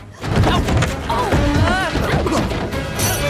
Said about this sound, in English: The ship turns sharply, causing Alex, Marty, and Melman's crates to slide across the deck and hit the barrier.